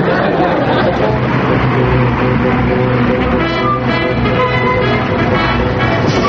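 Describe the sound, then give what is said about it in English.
A school bus arrives with a steady, loud engine rumble, its motor droning throughout while a babble of children's voices chatters over it. “You'd think I never rode on a school bus before.”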